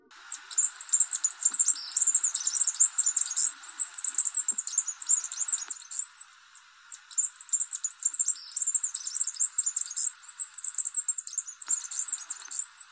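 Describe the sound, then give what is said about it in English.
Very high, thin tinkling southern emu wren song: two long runs of rapid, glassy trills and twitters, separated by a brief pause, clear with no talking. “They also have a lovely little song, sometimes described as being like tinkling glass.”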